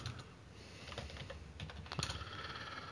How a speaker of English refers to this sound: Let's see. Yeah, I'm typing it in right now, too.